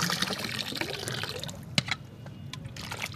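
Potatoes, onions and aubergines being rinsed in Nile river water: a steady rush of splashing and sloshing that thins out halfway, leaving scattered drips and a few sharp knocks. No one speaks.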